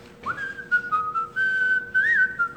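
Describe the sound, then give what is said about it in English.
Someone whistles a short, bright melody, the notes gliding smoothly up and down with a brief trill near the end, clear with no talking. “You know, whistle while you work.”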